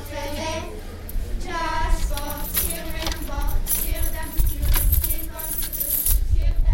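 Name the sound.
keys jangling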